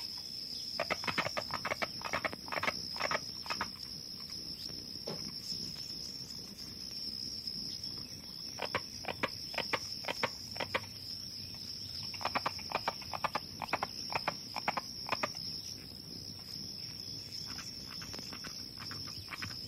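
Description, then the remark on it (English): Carpenter frogs call in bursts of sharp, woody knocks that sound like hammering, repeating in quick runs, over a constant high insect drone filling the night air. “As its name suggests, the call sounds like someone hammering.”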